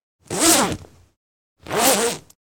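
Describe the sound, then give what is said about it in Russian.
Two quick zipper pulls, each a bright rasping zip lasting about half a second, separated by a short pause, as diving suits made of special fabric are zipped up, with no talking. “Давай поскорее нарядимся в эти чудо-костюмы и в путь!”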